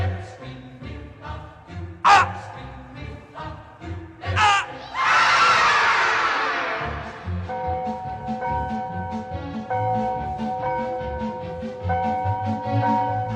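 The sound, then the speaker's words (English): Loud, frantic screaming for help from several voices, cresting in a harsh, noisy outburst midway, then continuing as sustained overlapping cries and shouts. “Yeah, I'll scream for help.”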